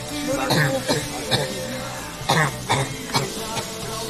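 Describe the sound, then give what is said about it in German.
A run of short, harsh coughs comes in irregular bursts, roughly seven over a few seconds, moderately loud against a steady background hum. “Und ein Hustenbonbon. Hallo, ich hab hier noch einen Ricola. Brauchen Sie das?”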